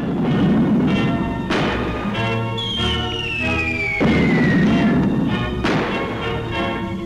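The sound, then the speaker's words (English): Bombs explode during a German Blitz air raid on Manchester, Britain, in World War II, in a series of heavy, booming blasts over a constant low rumble. A high whistle slides downward in pitch between the detonations. The din stays loud throughout. “In one of the fiercest raids of the German Blitzkrieg on Britain, a storm of bombs wreaks havoc in this proud city.”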